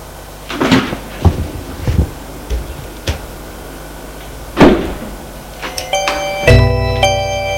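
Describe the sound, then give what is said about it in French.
A door opens with a series of sharp clunks and latch clicks, then a bright, ringing bell-like chime sounds over a low, steady hum. “La porte s'ouvre.”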